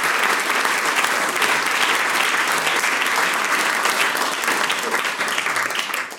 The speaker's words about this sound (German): Einen großen Applaus bitte, meine Damen und Herren.